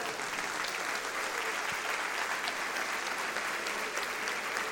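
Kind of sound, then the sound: crowd, audience applauding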